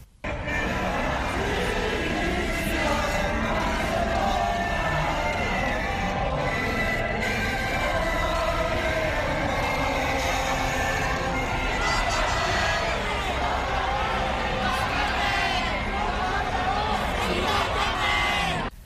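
Hundreds of people sing the protest song "Glory to Hong Kong" together in a street near the Sogo department store in Causeway Bay, Hong Kong, on a Friday evening. The many voices form a dense, sustained wash, with scattered whoops and shouts rising over the steady, loud singing throughout.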